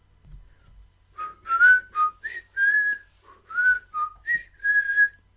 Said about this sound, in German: Ohne Zunge könnten wir nicht pfeifen.